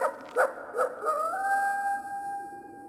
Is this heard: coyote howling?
yes